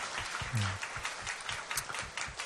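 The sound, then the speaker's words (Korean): An audience applauds together in worship, offering applause of thanks and love to God, a dense, steady patter of many hands clapping at once, with a brief low tone sounding beneath the clapping partway through. “할렐루야, 우리의 예배를 받으시기에 합당하신 우리 하나님께 감사와 사랑의 박수 올려드리겠습니다.”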